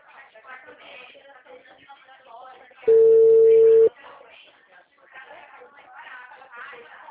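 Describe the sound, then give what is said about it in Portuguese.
People talk, then a loud, steady high-pitched telephone tone cuts in for about a second, the kind heard after a call is hung up, before the conversation resumes. “Por que que elas desligam o telefone?”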